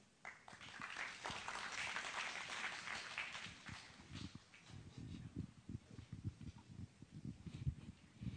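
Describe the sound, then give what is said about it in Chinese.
An audience at a Sydney Chinese Christian churches' gathering applauds as a pastor is welcomed to read from the Bible, a dense, steady wash of clapping for about four seconds, then it thins out into scattered, irregular low thumps and shuffling with no voices. “我只是带大家读圣经，不用拍手。”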